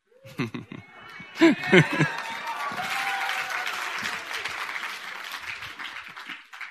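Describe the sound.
A crowd breaks into sustained applause, many hands clapping in a dense, steady patter, with a few voices and cheers heard at the start.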